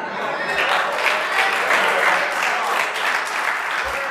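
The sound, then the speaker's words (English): A large audience claps steadily, a dense, continuous wash of applause that holds its level throughout without fading. “I haven't even gotten to the point, but you already started clapping.”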